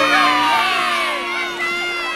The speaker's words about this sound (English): And these are the villagers shouting.